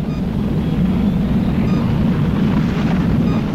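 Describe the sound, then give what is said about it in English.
A steady, loud rumbling roar like a rocket engine blasting upward, deep and constant for several seconds with a windy hiss on top and no voices. “It's flying a rocket. Up and up.”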